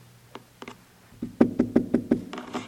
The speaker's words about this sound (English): I'm knocking. Will you let me in?